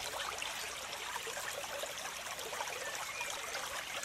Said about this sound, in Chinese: 轻轻地闭上眼睛，什么事都不用想，专心地听着潺潺的流水声，慢慢让自己放松下来。